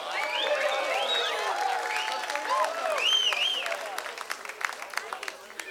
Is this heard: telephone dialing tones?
no